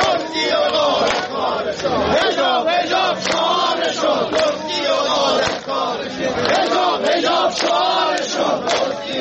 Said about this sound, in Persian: بازنشستگان تأمین اجتماعی عراق در تظاهراتشان این شعار را سر می‌دادند.